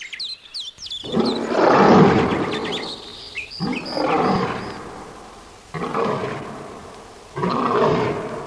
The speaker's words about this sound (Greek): Ένα λιοντάρι, ένα λιοντάρι. Έρχεται, έρχεται πάνω μου.